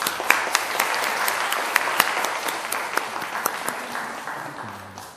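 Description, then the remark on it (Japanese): A church audience at a worship service applauds in blessing and thanks for a pastor's family serving on the Goto Islands, a steady wash of many hands clapping with sharp individual claps poking through, holding fairly even before thinning slightly toward the end. “ご家族を覚えて感謝を持って祝福の拍手をしたいと思います。”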